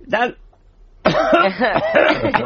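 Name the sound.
cough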